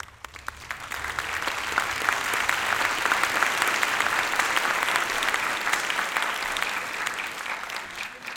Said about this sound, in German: Dieses Klatschen kann ja manchmal auch ein sehr gutes Mittel sein, um Zeit zu gewinnen, nicht? Auch für mich gerade.